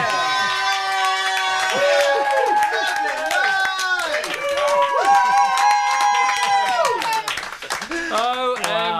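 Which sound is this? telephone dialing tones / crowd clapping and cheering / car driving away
crowd clapping and cheering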